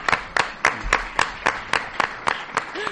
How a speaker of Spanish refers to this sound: Pues un doble aplauso.